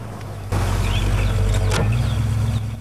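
A truck engine rumbles low and steady, swelling louder after a moment as the vehicle pulls in, with a brief squeal partway through and no voices.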